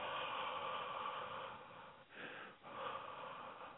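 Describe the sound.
A voice imitates the heavy, airy breathing of someone asleep: a steady rushing hiss that briefly dips twice between long drawn-out breaths, with no talking.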